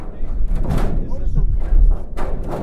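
Keys jingle and scrape in a lock, then a heavy, rarely used door onto the roof of the Cape Air company headquarters overlooking Barnstable Airport unlatches and swings open with a dull thud, over a low background rumble.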